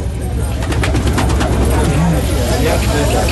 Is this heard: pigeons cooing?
yes